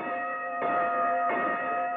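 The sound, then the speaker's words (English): A bright bell clangs repeatedly between rounds of a radio quiz show, about three strikes in a steady rhythm, each one ringing on into the next. It is loud, with no voices. “Listen to that bell clang, and while you're at it, listen to round four, and listen, too, to Bud Collier as he gets his New York team underway.”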